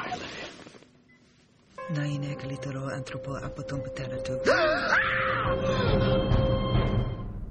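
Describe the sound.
Screaming bursts out after a brief hush at the end of a TV show scene, a loud, sustained, strained voice with wavering, gliding pitch, backed by a steady tonal hum, continuing to the end.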